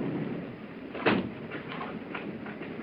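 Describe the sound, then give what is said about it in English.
A single sharp clunk of a train compartment door being latched shut cuts through a steady, low rumbling train noise, followed by a few faint knocks. “I shall lock my door.”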